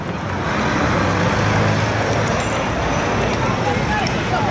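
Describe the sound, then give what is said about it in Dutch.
Steady, fairly loud road traffic as cyclists ride onto the road between the cars, cars and heavier vehicles rumbling past in a continuous wash of engine and tyre noise, with some indistinct voices mixed in. “En dan gaan ze de weg op tussen de auto's.”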